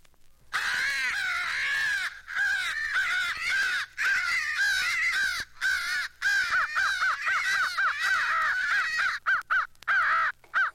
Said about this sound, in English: Crow and hawk fight. Fighting crows.